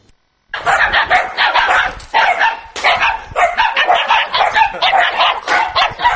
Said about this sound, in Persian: افزایش سگ‌های بی‌صاحب یا به اصطلاح دایدو حکومت ناحیه همدانی را وادار کرده است تا نزد شعبه کارهای داخله گروهی ویژه برای نابود کردن آنها تأسیس بدهد.